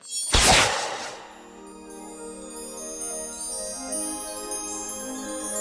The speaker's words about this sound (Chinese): 桃太郎举起了父亲交给他的弓箭，瞄准了天空上那层厚厚的乌云，并将箭射了出去。